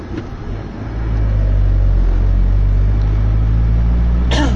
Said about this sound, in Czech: Takže nevím, jak slyšíte, náš motor přede velice dobře. Teď řadím za tři do kopečka.